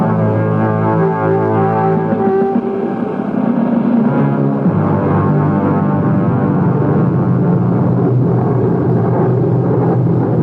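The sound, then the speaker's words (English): A Morin propeller fighter plane's engine drones loudly and steadily in flight in total darkness, a thick harmonic roar that shifts pitch slightly partway through, with no voices. “It's a miracle of miracles how you got this plane off the ground in total darkness.”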